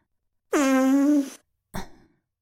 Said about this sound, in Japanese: こうやって遠慮容赦なくブリブリされるのが、まるで便器みたいにおならをひり出されるのが大好きなのよね